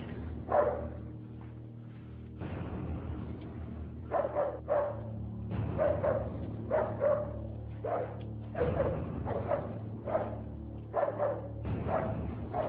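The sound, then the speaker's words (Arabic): A dog, set loose on a woman, barks repeatedly in a quick, uneven series of sharp woofs, fairly loud, over a steady low hum in the background. “أطلق الكلب عليها.”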